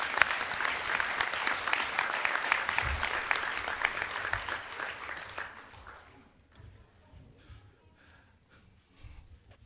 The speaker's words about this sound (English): And at this time, I'd like to give another warm round of applause for our veterans. Again, thank you.